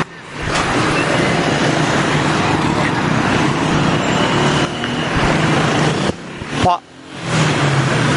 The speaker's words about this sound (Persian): واو چقدر ماشین موتور میاد میره، پارک آزادی.